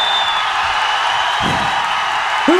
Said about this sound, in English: Ready? Okay, everybody start cheering, go ahead.